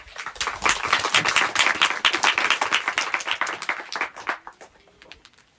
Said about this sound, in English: And I really want you to applaud them.